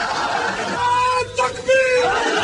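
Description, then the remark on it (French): A loud crowd of young men shouts slogans together at a rally, including "Long live Osama bin Laden", their raised voices rising in a sustained chant-like burst over dense, noisy crowd hubbub. “Longue vie à Oussama Ben Laden, hurlent ces jeunes gens.”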